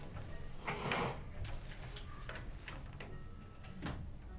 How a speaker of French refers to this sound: Je vous rejoins à la table, je ferme la porte et bienvenue dans la Cité des Interdits sur Radio Campus Grenoble.